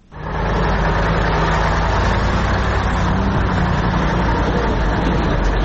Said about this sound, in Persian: سرک عمومی داخل دره سالنگ مثل همیشه شاهد تردد کاروان‌های موترهای مسافربری و باربری است که ازدحام آن چشمگیر به نظر می‌رسد.